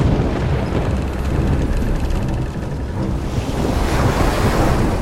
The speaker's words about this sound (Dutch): Midden op zee veranderde het weer. De lucht werd donker en de wind begon te huilen. De golven werden hoger en hoger